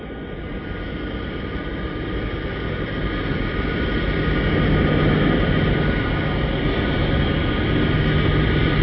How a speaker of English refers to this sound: The plane is landing now, approaching the runway. And a smooth landing it is.